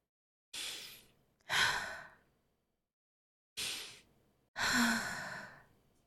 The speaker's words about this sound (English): It gives me so much faith to hear you breathing. Every time when I try to continue and don't know how, I just can breathe along with you and then I find the right words.